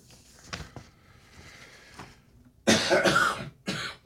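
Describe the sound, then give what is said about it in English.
Two loud, harsh coughs from a sick person, picked up over a microphone, the first a drawn-out hacking burst and the second shorter, preceded by a few softer throaty sounds and quiet background noise. “You're sorry that I'm coughing and people can hear it over your microphone.”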